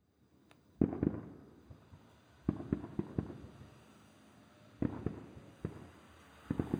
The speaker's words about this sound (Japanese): あら？この音。そういえば今日は、隣の県でも花火大会があるんでしたわね。距離がありすぎて、花火なんて見えるわけないのに。こうして音だけは遠くまで聞こえてくるなんて。